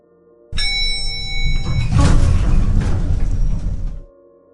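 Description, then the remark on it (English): An elevator arrives at the 11th floor and its doors slide open: a sudden mechanical start with a steady humming whine, then a loud rumbling, whooshing slide that swells for a couple of seconds and stops abruptly. “The doors opened.”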